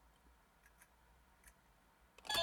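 A cassette tape being operated: a few faint, sparse mechanical clicks, then a sudden louder clunk and a steady whirring rush as the mechanism engages. No one speaks.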